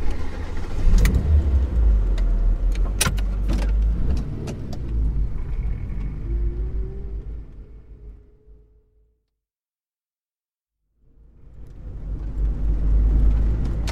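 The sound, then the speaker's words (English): A car engine rumbles with a few sharp clicks near the start, dies away into a short silence, then starts up again and runs loudly as the car is started. “Can you start the car, please?”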